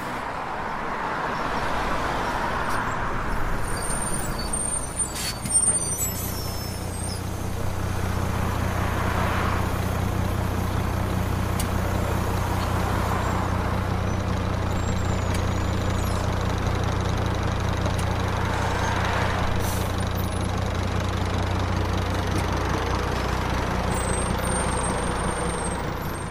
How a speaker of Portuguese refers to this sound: À hora certa, chegou a van. Mostrei ao motorista e reparei que o autocarro iria parar primeiro em Barranquilla e dali seguia para Cartagena.